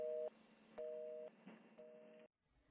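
A telephone hang-up tone: three steady electronic beeps, each about half a second long and separated by short gaps, heard clearly and alone over a faint line hiss.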